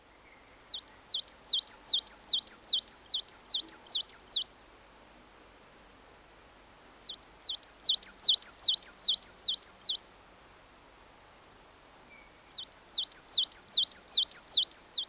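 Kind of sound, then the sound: bird, coal tit singing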